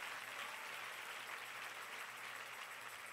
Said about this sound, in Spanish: Si ese es el aplauso, déselo mejor.